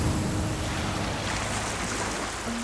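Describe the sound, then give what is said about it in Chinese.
Ocean waves crash against rocks on the Atlantic shore in a continuous loud roar of churning surf, with a rushing, wind-like hiss throughout and no voices. “一秒钟，大西洋岸边的海浪冲上了礁石。”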